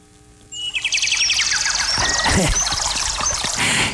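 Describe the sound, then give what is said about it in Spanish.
Small birds chirp and trill in a rapid, repetitive high-pitched chorus that starts abruptly, mixed with a loud rushing wash like pouring water, giving it a slightly artificial, toy-like quality. “Se oyeron medio artificiales esos pajaritos.”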